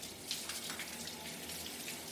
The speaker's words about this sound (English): of course, headed straight for the shower.